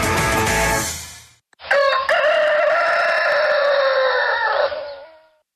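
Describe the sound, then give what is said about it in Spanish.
A rooster crows loudly, one long drawn-out cock-a-doodle-doo lasting a few seconds, preceded by a brief burst of bright, noisy sound, in a promo for the radio station Radio Activa. “Este es el gallo y aquí somos honestos.”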